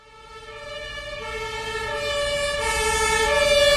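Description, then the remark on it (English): A wailing ambulance siren grows steadily louder as the ambulance makes its way through a dense traffic jam at Hermannplatz, at the corner of Karl Marx and Hermann Streets in Berlin, Germany. Its tones are held over a low rumble of idling engines and street noise. “An ambulance makes its way through a traffic jam at Hermannplatz.”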